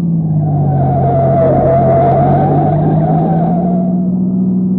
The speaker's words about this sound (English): The poorly surfaced, steep, graded road runs along the edge of a precipice, creating extremely hazardous driving conditions. However, the green sedan, running without lights, maintains a high level of speed. Too high.